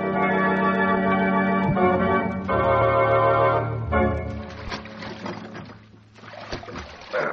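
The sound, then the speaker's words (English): Sustained music plays for the first half, then gives way to rhythmic watery splashing of oars repeatedly dipping and pulling through water as a boat is rowed, at moderate loudness. “Just keep rowing and let me manage this.”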